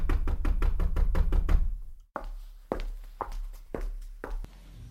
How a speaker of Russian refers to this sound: Белоснежка хлопотала на кухне, когда услышала стук в дверь.